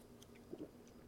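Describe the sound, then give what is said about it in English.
A quick sip of Coke Zero: one brief wet slurp against a quiet, steady background hum, with no talking. “It's time for my worst play after a sip of Coke Zero.”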